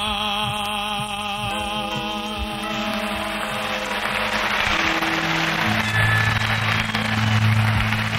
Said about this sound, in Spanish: quizá una de las canciones que más aplausos han despertado esta noche en la Plaza de Toros, en directo